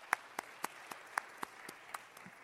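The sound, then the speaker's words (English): Thin, sparse applause from people who like their ketchup cold: a handful of sharp hand claps in a steady, evenly spaced rhythm, fairly quiet, with no voices over them. “The cold ketchup people, show of applause.”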